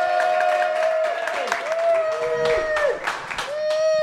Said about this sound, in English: Thank you, a sturdy clap there.